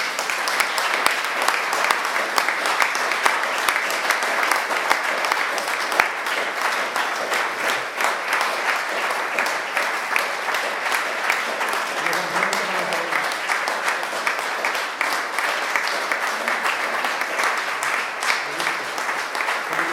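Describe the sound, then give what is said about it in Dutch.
Sustained audience applause requested for the council at a farewell in a council meeting, a dense steady patter of many hands clapping at an even loudness for the whole stretch, with a faint voice murmuring underneath around the middle. “Mag ik dan ook een applaus voor ons.”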